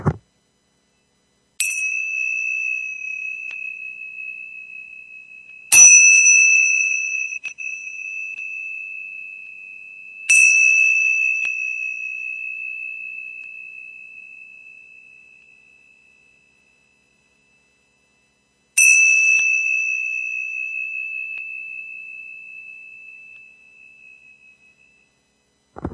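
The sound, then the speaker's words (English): Four bright, high-pitched bell strikes at uneven intervals, each ringing out clearly and fading slowly into silence: two flat Tibetan bells with Tibetan symbols on each side, tied one at each end of a string and clinked together. No one speaks. “Those were some Tibetan bells.”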